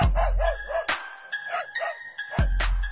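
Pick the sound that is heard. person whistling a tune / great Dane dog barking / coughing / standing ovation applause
great Dane dog barking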